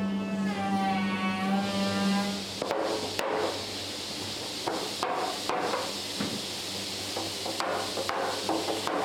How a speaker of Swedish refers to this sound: står med en stor hammare och slår med kraftiga slag ner ringarna av stålband runt ekstavarna som är uppvärmda för att vara böjliga. Det kallas att driva och i processen pressas stavarna tätt mot varandra och tunnan får sin rundade form